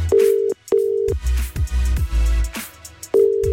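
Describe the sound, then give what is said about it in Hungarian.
An outgoing phone call's tone, placed to a person celebrating their name day, sounds in short, steady beeps, two close together, then a gap filled with some music-like sound, then another beep, loud and clear on the line. “Most egyébként egy névnaposnál csörgök, mert hogy ma Roland és Henrik nap van.”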